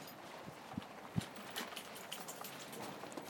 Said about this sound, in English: I think it's been raining most of the night, if not all, because when I went to bed last night, when I brought the dogs out last thing, it was raining then, like this.